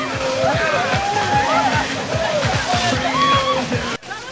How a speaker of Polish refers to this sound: A poniedziałkowe morsowanie dodatkowo zamieniło się ze sprawą śmigusa dyngusa w obfite lanie wody. No i zaczynamy!